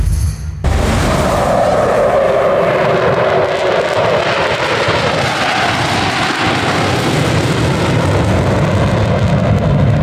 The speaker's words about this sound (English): The sand, sun, and high-speed military jet demonstrations. Cocoa Beach has it all. Join us for the 2026 Cocoa Beach Air Show, featuring world-class pilots pushing the limits of gravity by performing aerobatic stunts